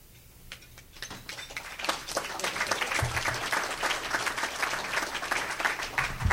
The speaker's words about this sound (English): I was a little nervous with the silence there, so thank you for the almost overwhelming applause.